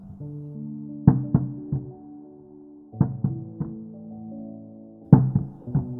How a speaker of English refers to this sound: The knocking again. Longer. More pronounced. Like a big dog running across the hallway above.